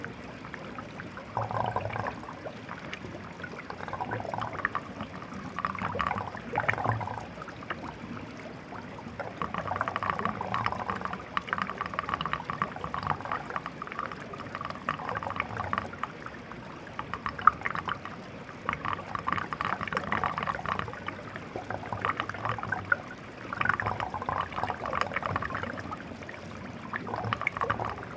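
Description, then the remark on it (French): Water flows over the ice of a frozen stream in the morning, recorded under a bridge on a temporary brook that feeds the Maravelle, making ice melodies: steady trickling with bright, watery tones rising and falling in a loose melodic pattern, with some reverb; continuous, moderately quiet, no voices. “Ce son particulier qui sont des mélodies de la glace provoquées par l'eau qui coule dessus.”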